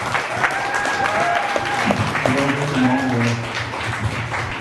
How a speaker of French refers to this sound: On applaudit, s'il vous plaît.